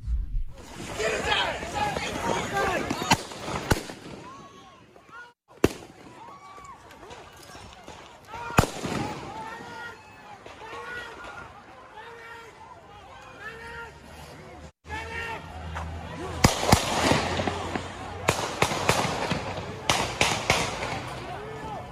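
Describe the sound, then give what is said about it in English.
Sharp, real gunshot bangs ring out on a city street in Kenosha, Wisconsin, several scattered cracks and a quick cluster near the end, over a steady hubbub of shouting crowd noise and commotion. “Those are real gunshots.”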